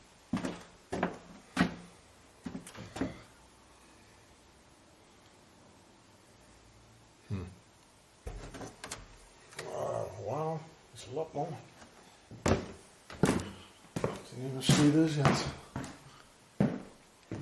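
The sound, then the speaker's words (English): Doors bang and clunk open and shut again and again at irregular intervals, sharp knocks, with brief stretches of muffled voices between the thuds. “Doors, we're probably housing four servants here.”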